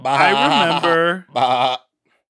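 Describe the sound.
A person imitates a goat's bleat with two loud vocal bursts: a long quavering one, then a shorter one after a brief gap, followed by silence.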